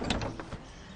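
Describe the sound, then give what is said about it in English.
A brief mechanical rattle and click of a door being opened, with a few quick clunks before it settles into quiet room noise. “I'll get the door.”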